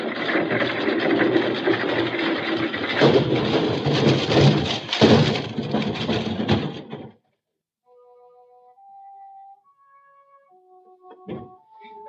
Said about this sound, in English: The wagon. It's moving. Someone's taking the brakes off and pushing us down the hill.